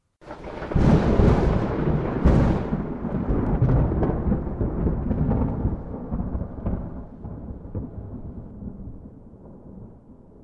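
A loud thunderclap cracks open with a couple of sharp bursts, then settles into a deep, rolling rumble that slowly fades away over several seconds.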